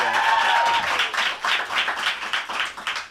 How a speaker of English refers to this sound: These are the boys. This is the band. Please give a huge round of applause for the band.